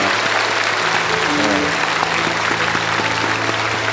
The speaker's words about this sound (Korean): 우리 자리에서 다 같이 일어나시겠습니다. 우리 오랫동안 또 준비했던 우리 찬양대회 위해서 다시 한번 격려의 박수합니다.